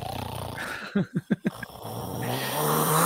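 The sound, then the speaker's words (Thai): A voice mimics an old man's snoring with four quick, rhythmic rasping snorts, followed by a short trailing breath, set against a steady background hum. “ลุงเขามาหลับทำไมฮะหรือว่าเพราะแกกรน กรนกรนบอกกรน อ๋อกรน ถ้ากรนนี่ต้องแบบเหมือนแบบออกเซ็นทรัลพาราม2 กรนเนี่ยคุณจะไปปลุกแกได้เดี๋ยวแกตายนะ”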